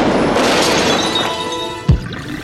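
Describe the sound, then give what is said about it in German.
A gunshot shatters a glass window pane facing the sea: glass shatters with a long, bright crackling spray and faint ringing tones, then a single deep thud breaks through near the end before the noise fades slightly. No one speaks. “Dabei löst sich ein Schuss, der sich in die Scheibe zum Meer bohrt.”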